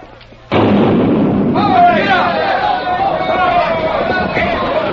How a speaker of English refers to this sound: They're ready to fire the cannon. Clear the track!